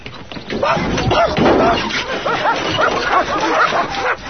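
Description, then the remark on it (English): Several dogs bark frantically all at once at a window in a living room on a film set, a loud, overlapping jumble of barks and yips that continues without letup from start to finish. “There were like 9 or 10 trainers on the set that day because we had to get each dog individually to go nuts on the window.”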